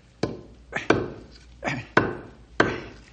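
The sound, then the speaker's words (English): A knife whittles wood in a slow, uneven rhythm: four sharp, crisp cuts interleaved with softer shaving strokes, each snapping off quickly, with no talking. “Yeah, gotta whittle this down a bit.”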